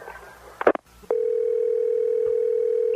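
A brief clatter and click, then a short silence, followed by a steady, unbroken telephone dial tone humming at a constant mid pitch after a phone call to a redneck shop is cut off.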